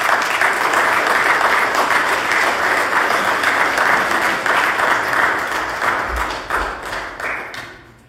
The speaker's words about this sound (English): I'm going to sit way in the back so that people clap for me for a long time as I walk up here.